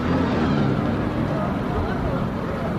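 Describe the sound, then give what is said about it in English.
Dozens of buses and battered Toyota pickup trucks, full of Kurds headed to the polls, rumble into the small Kurdish farming village of Pir Daoud, southwest of Erbil in Iraqi Kurdistan, their engines making a steady, loud, low drone with broad road noise, and an indistinct murmur of voices is mixed in underneath. “Dozens of buses and battered Toyota pickups arrive in the small Kurdish farming village of Pir Daoud, southwest of Erbil, the regional capital of Iraqi Kurdistan.”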